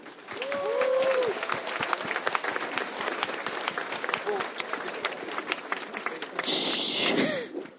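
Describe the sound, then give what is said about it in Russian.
A crowd applauds steadily at a presentation of the book 'Kruglaya Metodika' (The Round Method), many hands clapping in a dense, continuous patter, with a brief burst of cheering or a whistle near the end. “Методика действительно круглая, поэтому аплодисменты не мне там, а кругу, который это делал”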